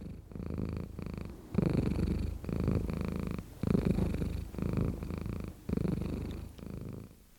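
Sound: cat purring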